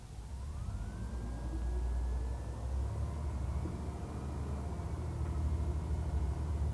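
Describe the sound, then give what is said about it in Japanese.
A city bus on route 34, bound for Osaka Station via Daitō-chō, pulls away from a stop, its engine rumbling deep and steady while a thin whine climbs gradually in pitch as it gathers speed. “発車します。ご注意ください。”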